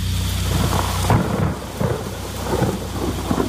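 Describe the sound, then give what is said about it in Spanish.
Heavy rain pours steadily outside at one in the morning while low thunder rumbles throughout, with a loud crack and roll about a second in and further deep rumbles following. No one speaks. “Era la una de la madrugada y fuera diluviaba.”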